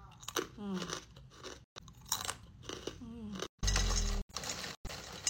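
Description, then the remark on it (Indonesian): Loud, crisp crunching as someone chews Raja Ngemil crispy stick-shaped basreng seasoned with lime leaves, a rapid series of brittle bites and chews with brief murmured vocal sounds between them, ending in a heavier crunch. “Aku baru cobain sekarang sih.”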